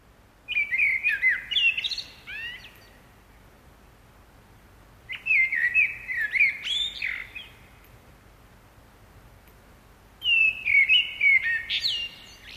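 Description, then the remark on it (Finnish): A blackbird sings three separate phrases of rich, fluting whistles, each ending in higher twittery notes, with pauses of a few seconds between them against a quiet outdoor background. “Ja näin mustarastaan laulun siivittämänä palataan vielä aamun ensimmäiseen keskusteluun”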